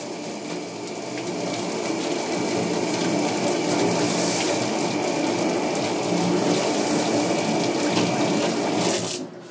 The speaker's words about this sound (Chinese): 我先洗洗手。